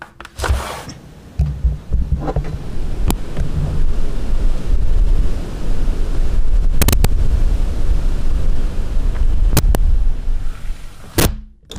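Strong wind buffets a microphone at the open window of a home studio on a cold night, producing a loud, continuous low rumble broken by sharp crackling pops and bursts of distortion, with no voices present.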